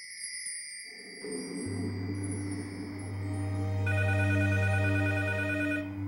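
telephone bell ringing

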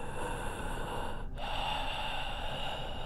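deep heavy breathing

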